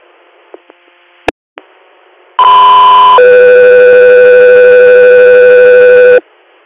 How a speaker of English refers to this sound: Guthrie Air, standby for tones.